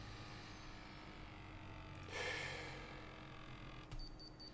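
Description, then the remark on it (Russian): One heavy, breathy exhale rushes into the microphone, followed by a shorter, fainter breath near the end, with a low steady hum in the background and no talking, as a person breathes while measuring their blood pressure. “Давайте я сейчас так буду дышать.”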